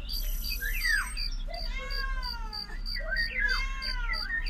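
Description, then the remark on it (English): A cat meows a few times, drawn-out, wavering cries over a steady low hum, with faint high chirping sounds in the background. “Can't even see its pointless creature. Cat.”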